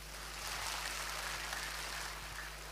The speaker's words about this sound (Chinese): 那么由于身体的原因，老艺术家今天不能来到扬州市扬剧团50周年的庆典现场，所以在这里我建议大家，我们怀着祝福，用掌声祝福李开敏及所有的老艺术家健康长寿。